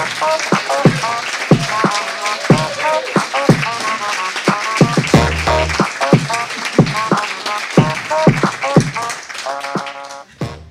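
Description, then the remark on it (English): An audience at an evening event applauds a guest being introduced who came from Kelowna, about ten seconds of sharp claps tumbling in an uneven patter, with scattered cheers and voices rising through the clapping before it fades at the end. “Please give a round of applause for our guest,”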